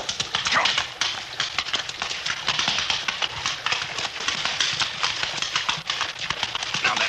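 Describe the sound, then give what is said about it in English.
Horse hooves clatter through a rocky-bottomed creek bed as a rider crosses on horseback, a dense, steady jumble of loud knocks and splashes over rushing water, with no voices. “The creek bed has a rocky bottom, and your horse is liable to stumble unless you keep his head up.”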